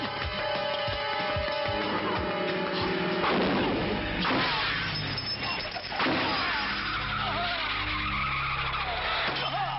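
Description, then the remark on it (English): A car skids loudly with screeching tires and hits a stuntman in a film stunt, then several heavy bursts of impact and clatter follow over a steady engine and background rumble, intense like a movie crash scene. “The stunt of hitting the car, the main stunt is not Samo.”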